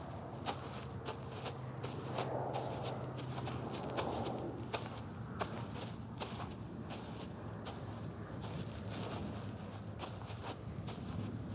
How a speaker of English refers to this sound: After my feeble attempts of defiance, the only sound heard was our footsteps in the snow.